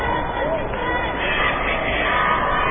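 A basketball crowd roars and applauds a 3-point play in a steady, loud wash of cheering that holds for a few seconds without letting up.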